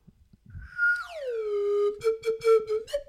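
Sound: slide whistle being played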